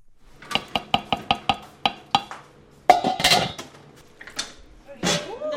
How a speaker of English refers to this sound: At the Yusuf Mosque in Brighton, three women are busy stirring giant pots of something simmering. I'm making the rice with chickpeas and some spices, like Pakistani spices. It's about 6 o'clock in the evening.